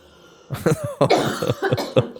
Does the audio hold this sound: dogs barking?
no